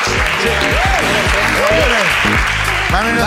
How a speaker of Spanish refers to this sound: Un aplauso para Ana. Un aplauso.